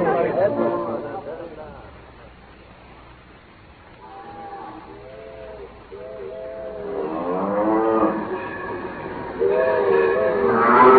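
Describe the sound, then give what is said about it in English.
A train whistle blows a few short, steady tones, then longer wavering blasts over a low rumbling background, fairly loud; the Wyoming special train is held up from reaching the station by cattle blocking the right of way. “Hey, the Wyoming special can't get through to the station on account of them cattle blocking the right of way.”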